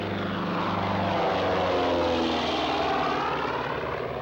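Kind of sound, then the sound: vehicle, airplane engine flying overhead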